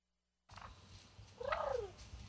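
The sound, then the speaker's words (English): A turkey purrs with a low, steady, rattling rumble from start to finish, broken midway by a brief rising-then-falling tonal call, with no talking. “All right, but you did hear it purring a little bit there.”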